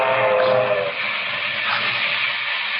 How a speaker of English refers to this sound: It is Thursday night in July, 1931. A local passenger train speeds through the rocky country of West Texas. While the engineer watches the track ahead, the perspiring fireman shovels coal into the flaming firebox.